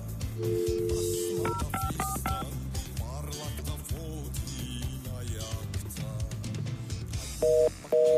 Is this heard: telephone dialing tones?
yes